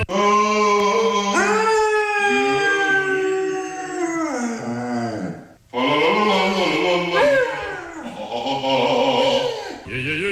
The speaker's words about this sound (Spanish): Dice, y los fines de semana por la mañana, cuando él le da por cantar, el perro le hace los coros.